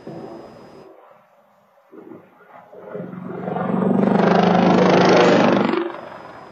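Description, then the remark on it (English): A military helicopter on a training flight comes down and crashes over a neighborhood in Huntsville, Alabama, recorded by a Nest camera: a quiet stretch gives way to a deep, loud roar that swells over a few seconds, holds, then drops off abruptly, with no voices. “New this morning, a Nest camera captures the moment a military helicopter went down over an Alabama neighborhood, killing two people.”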